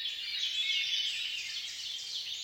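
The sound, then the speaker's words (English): A dense chorus of high-pitched birdsong, with many twittering calls blending into a steady, continuous wash at moderate volume and no voices. “One study has shown that people reported relief from feelings of worry and paranoia after hearing just a few minutes of bird song.”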